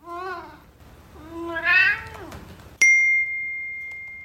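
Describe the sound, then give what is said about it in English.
A cat named Wilbur meows twice, a short call followed by a longer rising-and-falling meow, then a phone's sound recognition feature gives a bright electronic ding that slowly fades. “And sure enough, my phone dings and says, a sound has been recognized that may be a cat.”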